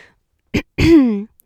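A single raspy throat clearing: a short rough burst, then a longer voiced, gravelly rumble that slides downward in pitch before stopping, with no talking around it.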